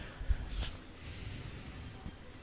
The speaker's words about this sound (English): I hear coughing, so he may be peeing, maybe throwing up. Probably throwing up.